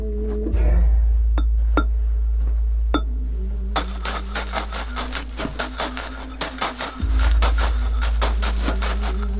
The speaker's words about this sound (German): This is the bass drum. It's a piece of ice. This made a cut and it vibrates and makes this tone.